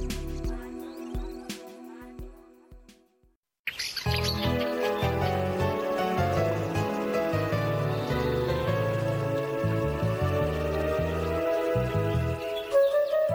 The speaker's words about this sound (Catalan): Sabies que els ocells cantaires pertanyen a la família dels fringíl·lids i tenen unes facultats especials per vocalitzar sons i cants melòdics més llargs i complexos que la majoria d'altres aus?